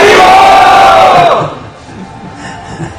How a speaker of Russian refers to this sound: Громко харибол крикнуть.